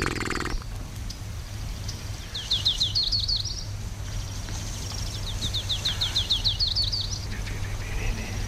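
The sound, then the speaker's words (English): A warbler sings two short phrases of quick, high, repeated notes, each run rising slightly and ending in a brighter flourish, over a steady low background hum with no voices. “It's a warbler.”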